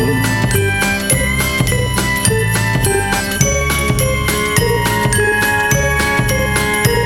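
Sleigh bells jingle in a steady, bright rhythm throughout a loud, full musical backing with bass and chords, shimmering on every beat with no voices present.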